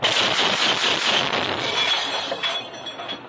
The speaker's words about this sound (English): In this clip, the crew is using the mounted machine gun to shoot down an Iranian-designed Shahed drone, which looks like a small plane and sounds like a giant lawnmower.